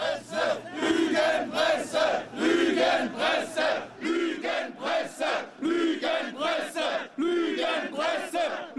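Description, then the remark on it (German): A large crowd at a street demonstration chants in unison, loud rhythmic shouted syllables repeating in a steady beat, with a low hum underneath during the first half. “Eine ganz normale Demonstration, deren Organisator vor der Kamera flieht.”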